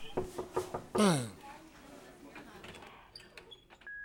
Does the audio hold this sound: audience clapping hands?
no